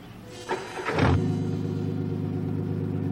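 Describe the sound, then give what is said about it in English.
A car engine cranks and catches at about half a second, surges in a brief rev, then settles into a steady, rumbling idle. Smoke comes out of the tailpipe. The car starts by itself with no one near it. “Smoke now coming out of the tailpipe. He runs back to the car. Car started somehow.”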